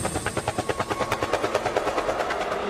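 A helicopter's rotor thumps in a fast, steady rhythm, the blades chopping loudly with a broad mechanical whine beneath, no voices present.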